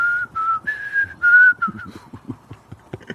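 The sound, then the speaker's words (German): A person whistles a short tune with sustained, slightly wavering notes for about two seconds, then it gives way to quieter low mumbling and rustling sounds. “Pfeifen ist auch nicht der beste Instrument.”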